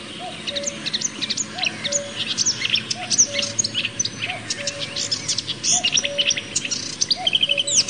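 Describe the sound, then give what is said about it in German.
A marsh warbler sings a rapid, varied stream of chirps, trills and whistles that mimic other bird species, continuous, with a soft lower note recurring at regular intervals beneath. “Der Sumpfrohrsänger ist ein sogenannter Spötter, der andere Vogelarten nachmacht.”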